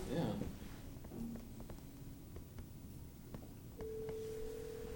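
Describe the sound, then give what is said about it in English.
A room phone rings with an incoming call, heard through the speakers: a brief electronic tone early on, then a steady sustained ring tone near the end, fairly quiet against a low rumbling room background. “It's an incoming call.”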